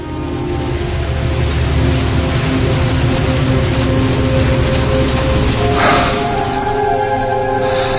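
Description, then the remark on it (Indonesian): A train rumbles past steadily and loudly, its wheels clattering under a low droning hum and faint whining tones, with a brief surge of hiss near the end. No voices. “Sesekali ku dengar lagi suara kereta api yang melintas.”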